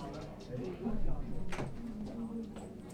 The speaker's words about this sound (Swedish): Stängde du dörren där? Ja, det var bra.